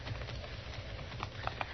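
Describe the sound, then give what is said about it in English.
A horse's hooves clip-clop at a slow, uneven walk as the horse, whose rider jumped off, is caught, a few sharper knocks standing out toward the end over a steady low rumble of background noise. No one speaks. “I got her horse.”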